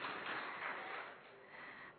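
A crowd claps steadily for about two seconds, a dense, even patter of many hands that swells briefly and then eases off slightly, fairly soft. The applause is for a doctor.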